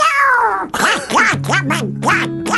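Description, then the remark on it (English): A voice imitates Donald Duck, squawking out a rapid string of garbled, nasal quacking syllables in a loud burst, with a steady low tone sounding underneath partway through. “It's Donald Duck, isn't it? It's a version of Donald Duck.”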